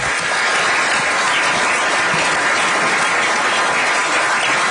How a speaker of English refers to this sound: Give the commissioner a big round of applause.